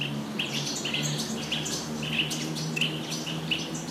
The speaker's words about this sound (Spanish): El canto de los pájaros y su presencia multicolor es un remanso para nuestro espíritu, pero sobre todo, una plena manifestación de vida en las barrancas.